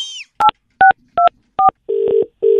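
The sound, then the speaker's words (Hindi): A phone number is dialed one last time: four short two-tone keypad beeps in a quick, even rhythm, followed by a steady low ringback tone that pulses twice. No one speaks. “अरे यार ये भी नहीं सुन रहे, एक आखिरी बार लगाते, बहुत ही ज्यादा फट पड़ेगा अभी तो।”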